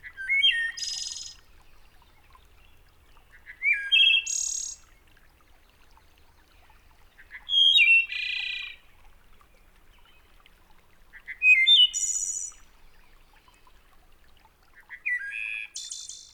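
A male wood thrush in an eastern deciduous forest sings five separate flute-like phrases spaced about every four seconds, each ending in a high trill and each pattern different from the last, clear.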